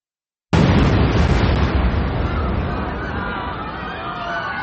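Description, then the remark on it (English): A sudden, loud bomb blast, the 1993 World Trade Center bombing set off in a yellow Ryder van on the B2 level of the underground parking garage, erupts after a moment of silence, its broad roar slowly fading into a rumbling wash of noise with faint crowd sounds beneath. “12 minutes later, the bomb went off.”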